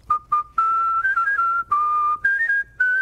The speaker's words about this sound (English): whistles happy birthday for free to people all over D.C. Happy birthday, man. Whether they work in cubicles or Oval Offices, Democrat or Republican.